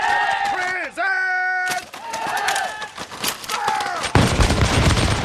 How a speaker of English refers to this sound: A volley sent a hammer blow of shot and ball into the front of the redcoat line.